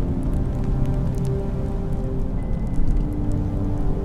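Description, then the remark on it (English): Steady heavy rain from an afternoon thunderstorm, a dense continuous patter and rumble with scattered sharper drop hits, holding an even loudness throughout with no voices. “It's just an afternoon thunderstorm.”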